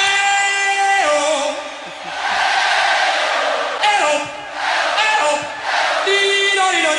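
A huge stadium crowd sings along in unison, loud, sustained vocal notes rising and falling in repeated waves, with a lead voice holding a clear held tone over the roar.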